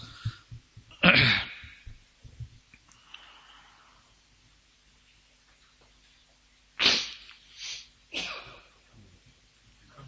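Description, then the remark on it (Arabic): A single loud, sharp sneeze bursts out near the start. After a quiet stretch, a quick run of three breathy, softer bursts follows, with no talking. “رحمك الله.”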